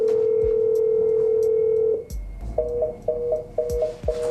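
A steady telephone dial tone hums for about two seconds, then gives way to a rapid series of short, evenly spaced double beeps as a call to the press service of Nikolai Patrushev connects, clear with no voices.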